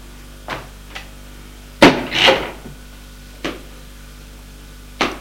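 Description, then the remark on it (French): The door of a woman's home is opened to a visitor at 9 pm and shut: a handful of sharp wooden clunks and latch clicks, with one louder thud followed by a brief scraping rattle, spaced irregularly with no voices. “Elle a fermé la porte et lui donne un baiser sur la joue.”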